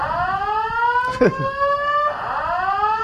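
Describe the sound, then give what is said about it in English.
A fire alarm blares continuously with a loud, steady electronic tone that wavers slightly, broken briefly midway by a short knock or clatter. No one speaks. “We have a fire alarm.”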